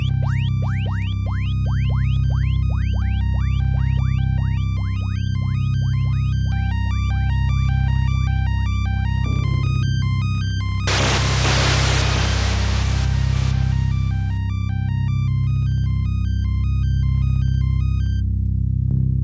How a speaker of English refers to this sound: Muted keyboard arpeggio that fades into and out of hearing while ambient sounds and effects play over top. This track only plays during certain mini-boss encounters, rather than during Space Harrier's hyper-fast forward-scrolling combat sequences